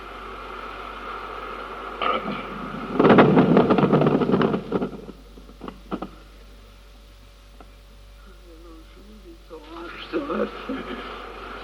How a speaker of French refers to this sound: C'est comme ça qu'on fait le tonnerre.